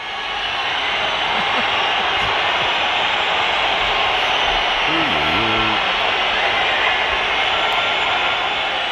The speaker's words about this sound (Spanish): Hay una pañolada importante, ¿eh? Además de los gritos de fuera, fuera y los silbidos.